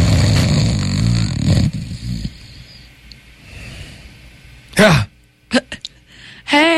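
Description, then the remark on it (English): A voice imitates a snore with a loud, raspy, rattling drone for under two seconds. Quieter background murmur follows, then several short, sharp vocal bursts. “That fake snore just hurt my throat!”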